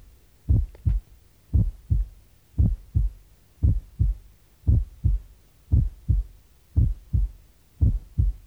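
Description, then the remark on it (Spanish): A steady heartbeat of low, dull thumps, about one cycle per second. Each first heart sound is split into two closely spaced parts, followed by a single second sound, with no talking. “Escuche un primer ruido dividido.”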